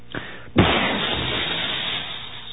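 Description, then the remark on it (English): A brief pop is followed by a sudden loud blast that rolls into a sustained, crackling rumble fading slowly, like a cartoonish explosion effect with debris hiss trailing off. “explosion of another right-wing hero.”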